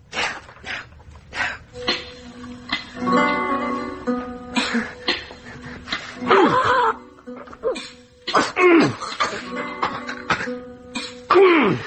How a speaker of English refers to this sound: And I did say I'd get rid of that cough for you, didn't I?